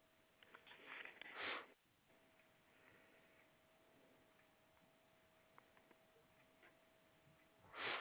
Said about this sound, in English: Sorry about the sniffles.